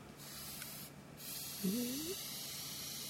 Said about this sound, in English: There's no good spraying unless you get very close, because